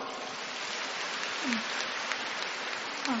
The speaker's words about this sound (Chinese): 鼓掌。